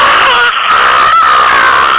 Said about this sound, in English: So yeah, when in doubt, just scream as loud as you possibly can at a telemarketer.